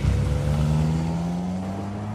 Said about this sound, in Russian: Двое взрослых и мальчик сели в машину, хлопнули дверцы, и автомобиль укатил.